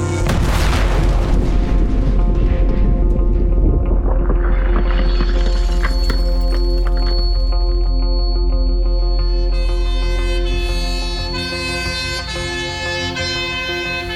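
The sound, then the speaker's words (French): A grenade explosion blasting a drugstore bursts out loudly, then a deep rumble lingers for several seconds while ringing, siren-like tones rise and sustain over the fading roar. No one speaks. “Quelques secondes plus tard, une déflagration assourdissante souffle le drugstore.”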